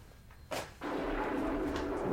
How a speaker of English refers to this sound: Sorry, I can't hear. It's thundering this end.